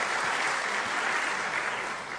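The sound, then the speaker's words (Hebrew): An audience claps their hands in a steady, dense burst of applause for a community religious radio station, loud and sustained throughout before easing slightly at the end, with no voices speaking. “תחנה, אפשר למחוא כפיים בהחלט, כן.”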